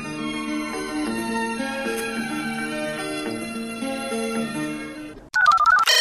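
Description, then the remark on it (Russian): An electronic phone ringtone melody plays steadily for about five seconds after the number 101 is dialed, with no voices, then cuts abruptly to a louder, brighter burst of tone. “Вы набрали телефон 101 ради забавы?”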